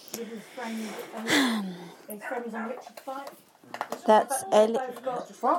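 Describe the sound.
A dog, Ellie, barks at something several times in short, irregular bursts, fairly loud, with people talking around and between the barks.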